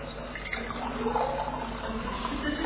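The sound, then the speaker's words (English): Water pours steadily into a glass, a continuous splashing and gurgling stream lasting about three seconds at an even, moderate loudness. “We're going to take a glass, we have our cameraman there, yes, and we're going to tip the water into the glass.”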